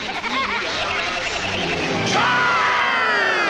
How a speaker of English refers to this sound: Well, it sounds like a crowd.